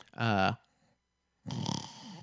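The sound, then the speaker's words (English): A person imitates awake snoring as an example: a short, buzzy voiced grunt, a second of silence, then a longer harsh, raspy snore-like breath with a rough rattling texture, fairly loud and with no talking. “And it's a lot better than just, you know, the former, which I have a bit of experience with, where you kind of are just sitting with your mouth open and, you know, you'll get kind of bored and you'll just kind of do some awake snoring.”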